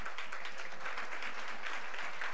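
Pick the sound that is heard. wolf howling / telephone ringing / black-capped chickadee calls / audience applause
audience applause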